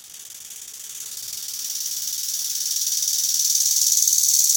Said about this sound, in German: Da zum Beispiel der Nachtigallengrashüpfer, ein kleiner Heugümper, grau, braun, manchmal grün.